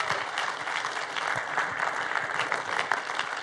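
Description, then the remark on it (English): A church audience claps together at a morning service to welcome first-time visitors, warm, sustained applause, a dense steady patter of many hands with no pauses and no voices rising above it. “We do that around here by clapping for you.”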